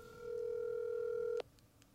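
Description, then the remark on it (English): A telephone tone sounds as a number is dialed to call a caller back: one steady, mid-pitched beep held for just over a second, then cut off sharply with a click, leaving quiet line hiss. “Calling his number.”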